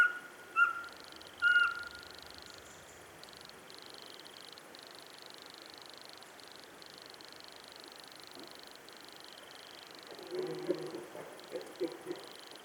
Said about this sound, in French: La scène est quand même très espacée, donc il y a une grande vallée devant moi, toute boisée, reprise de la Chevêchette.